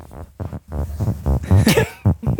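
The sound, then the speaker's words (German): A quick run of six short, buzzy farts from a man sitting on a couch, fairly loud, each a brief tonal blurt with small gaps between them and no talking. “… hat gerade 6-mal gefurzt”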